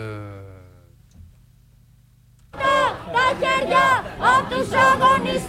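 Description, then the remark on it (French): A sustained tone fades out, then a loud street demonstration crowd erupts in Monastiraki Square in central Athens, Greece, in solidarity with hunger striker Thanos Hadziagelou, many voices shouting and chanting together in rhythmic bursts across the open city square. “So we are in Monastiraki Square, which is the center of Athens, and we are having a demonstration in solidarity with Thanos Hadziagelou, who is on hunger strike since the 19th of December.”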